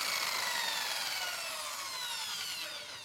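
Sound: handsaw sawing through wood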